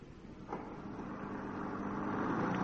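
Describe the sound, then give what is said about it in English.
A car engine hums steadily, its low rumble gradually building in loudness over a few seconds, with a brief click near the start. “As you see, it is extremely simple to drive.”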